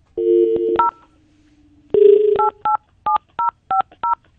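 A rapid run of telephone keypad tones as a phone call is dialed, each a short two-pitch beep, pressed in quick irregular succession after a brief opening tone, with no voices present.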